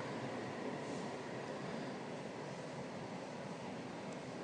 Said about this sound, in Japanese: あ、電車来た。